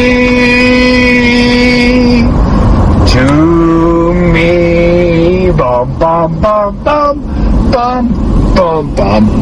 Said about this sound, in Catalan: … de …, sí. Cantada en el seient de darrere d'un cotxe a la policia.